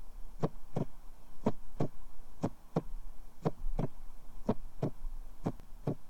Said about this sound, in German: Er spürte seinen eigenen Herzschlag so heftig, als würde er jeden Moment seinen Brustkorb sprengen.